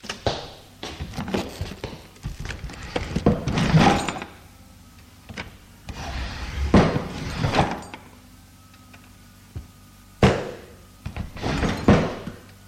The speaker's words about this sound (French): Arrivé à son bureau, il ouvre les tiroirs de son bureau